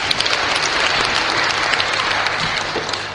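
A room full of people clapping steadily, a dense, continuous patter of hands at even loudness throughout, with a faint murmur underneath and no clear speech.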